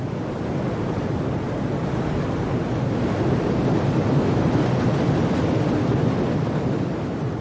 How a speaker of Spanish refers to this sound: Torrentes de espuma y lodo emergen en las estribaciones de todo el Himalaya. Estos ríos llegan a transportar hasta el mar casi 5.000 millones de litros por segundo.